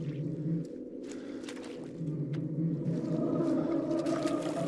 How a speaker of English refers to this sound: The man steps into the pond. The muck and water bubbles around his feet.